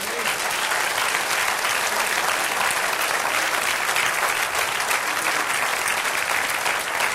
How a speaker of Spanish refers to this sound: Dale otro aplauso.